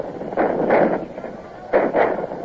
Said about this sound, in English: Here come their cannon. They seem to have plenty of ammunition to waste. It grew darker and snow began to fall. The campfires of the enemy glowed as yellow as before, and the flashes of their cannon remained regular as clockwork.